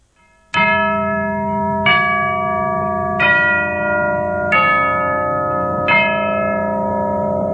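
A deep church bell tolls five times at a slow, steady pace, each loud strike ringing out and overlapping the lingering hum of the one before, with no voices.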